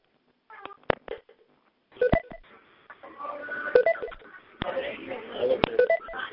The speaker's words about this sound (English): I hear a lot of people beeping in. Please let us know you're here.